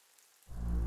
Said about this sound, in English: Still raining then.